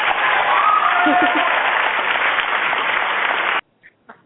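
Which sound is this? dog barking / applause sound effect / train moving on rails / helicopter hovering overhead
applause sound effect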